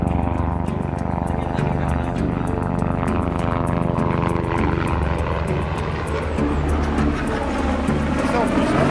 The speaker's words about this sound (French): L'hélicoptère qui passe, c'est les secours en montagne.